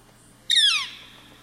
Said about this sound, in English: This month's profile species is a woodpecker known as the northern flicker. Let's listen to their most common call here.